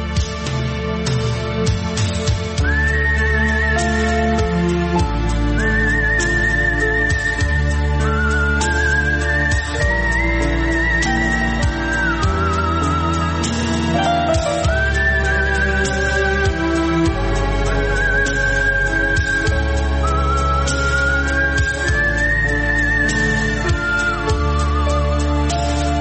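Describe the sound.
A clear, melodic human whistle carries a slow, gliding tune over a full orchestral film score, sustained notes sliding between pitches, prominent above the steady musical accompaniment throughout.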